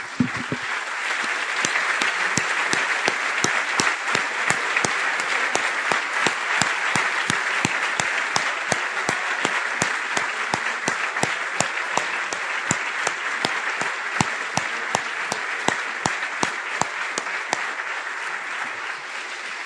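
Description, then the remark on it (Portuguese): A church audience applauds Jesus steadily for about twenty seconds, a dense wash of many hands clapping with sharper individual claps popping out, fairly loud and sustained with no talking over it. “Nós te aplaudimos de novo, Jesus.”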